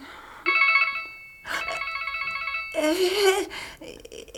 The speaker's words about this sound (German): Geh ruhig ans Handy, Ellie. Du willst doch sicher wissen, wer dich anruft.